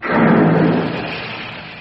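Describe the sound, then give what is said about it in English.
A heavy vault door weighing 5,000 kilos swings outwards on its hinges with a loud, continuous low rumbling grind that starts abruptly and slowly fades over about two seconds, without any voices. “The door swings outwards and it weighs all of 5,000 kilos.”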